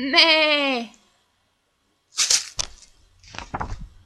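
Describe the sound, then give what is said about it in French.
A goat lets out one loud, quavering bleat lasting nearly a second, followed after a pause by a few short rustling, hissy bursts of noise. “C'est la chèvre.”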